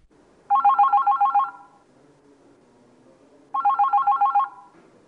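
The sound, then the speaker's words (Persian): A telephone rings twice, each ring a rapid warbling trill lasting about a second, with a pause between them and faint low background noise underneath, before a recorded phone call from a female listener is played on a programme. “قبل از اینکه ادامه سوالات رو با هم بشنویم، یک تلفن رو آماده پخش داریم از یکی از خواهران شنوندمون.”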